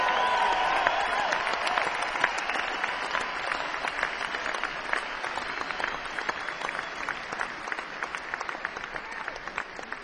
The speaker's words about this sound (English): applause. Bernie Ledden come back to play music with us this year.